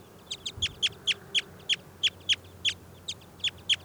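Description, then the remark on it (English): A small wild bird, just pulled out of a net, gives a rapid series of sharp, high-pitched chirps, about a dozen evenly spaced notes in under four seconds, standing out clearly over a faint low hum with no talking. “I've just pulled that wild bird out of the net.”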